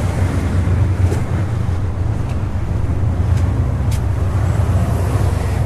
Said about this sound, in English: That big loud sound is one of those boats going by. I'm going over the bridge right now. Should be on your left if you're listening to this in stereo.